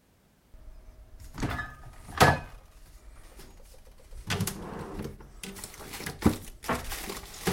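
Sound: refrigerator door being opened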